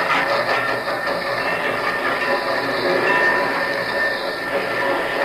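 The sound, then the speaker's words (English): A train rolls past, its loud rumbling clatter and metallic rattle holding steady for several seconds with no voices over it. “Hey, can I park my train here?”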